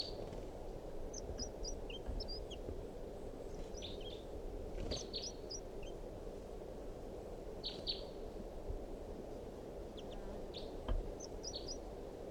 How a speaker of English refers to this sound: So recording is a wild bird again, giving alarm calls.